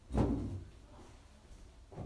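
A door thuds shut with a solid, low knock that fades into quiet, followed by a softer bump near the end.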